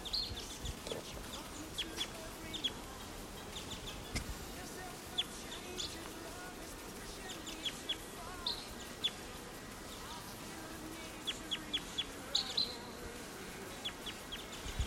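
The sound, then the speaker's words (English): A wild bird right above a camp calls with short, high chirps scattered irregularly throughout, fairly faint, over a steady buzzing, insect-like background hum and low rumble. “Here's a wild bird right above the camp.”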